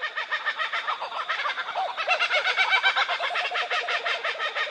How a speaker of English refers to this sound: In this group that we're listening to here, there'd probably be four or five birds. It's sort of letting other kookaburras in the area know that this is their territory.